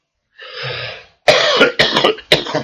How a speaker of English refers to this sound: Oh, my head. Kills my head to cough.